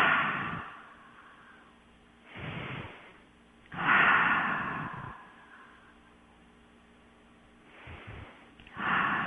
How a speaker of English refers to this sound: Take a couple of deep breaths.